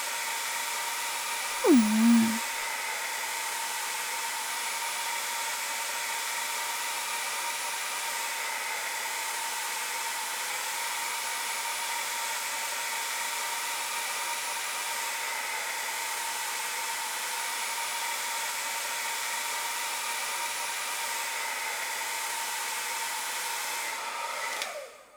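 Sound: hair dryer blowing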